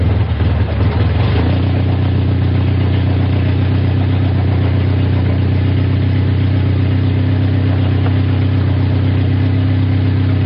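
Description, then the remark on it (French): A boat's motor on the Mekong River starts up and settles into a steady, loud drone with a low rumbling hum, running continuously with no pauses. “Et le moteur est parti.”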